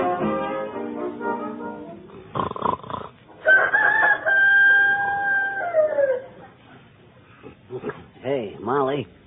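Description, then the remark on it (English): A human voice imitates a rooster crowing, a long drawn-out cock-a-doodle-doo with a sustained high note that slides down, framed by other vocal sounds and a short burst of noise. “That wasn't a real rooster.”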